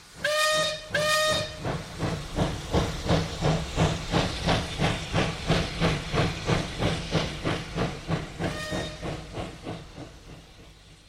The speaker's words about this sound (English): Down by the station, early in the morning, see the little puffer trains all in a row. See the engine driver turn the little handle. Chug, chug, toot, toot, off we go!